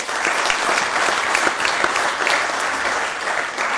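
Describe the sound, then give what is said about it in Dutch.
Steady audience applause for two women awarded the second and third prizes for council proposals, a dense patter of many hands clapping at an even, sustained loudness with no voices standing out. “Ook voor beide dames denk ik een hartelijk applaus.”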